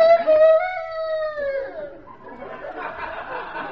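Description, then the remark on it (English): A recorded rooster crow plays once over a public address system at a chicken farm: a loud, drawn-out harmonic call that holds steady, then slides down and fades, giving way to a rough, murmuring noisy wash. “Say, lady, where's that rooster? I hear him, but I don't see him.”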